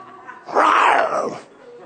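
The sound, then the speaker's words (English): A voice imitates a snarling, growling pit bull in one rough, loud burst lasting under a second, rising sharply and fading away, with no other talk. “Or a pit bull for some of you.”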